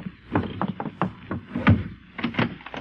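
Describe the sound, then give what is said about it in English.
Firm knocking on the wooden door of a new house in Philadelphia, several hollow raps delivered in uneven bursts with brief pauses between them, fairly loud, with no voices. “Well, do you generally take so long a time to answer your door?”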